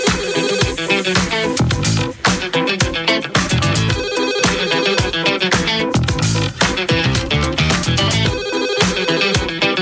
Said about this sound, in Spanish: El maldito teléfono está sonando otra vez.